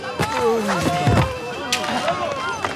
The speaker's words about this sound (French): Mais elle a réussi à voler une calèche en assommant le cocher avec son pied de cochon.